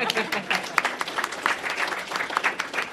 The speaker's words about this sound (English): So right to my left, your right, is Susan Savage, a native Tulsan elected as Tulsa's first woman mayor in 1992. You can clap if you want.